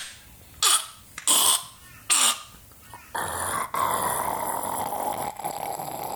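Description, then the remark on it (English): A voice imitates a cat purring: after three short, rough vocal bursts, a steady, raspy rumbling drone carries on for about three seconds with no talking. “That was a purr, not gargling.”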